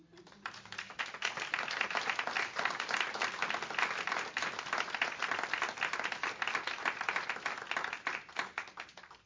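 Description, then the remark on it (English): A crowd breaks into a sustained round of applause for themselves and the Lord, many hands clapping densely and steadily for several seconds, loud throughout with no voices standing out, then trailing off at the end. “And I just want you to take just a moment and give yourselves and the Lord a round of applause.”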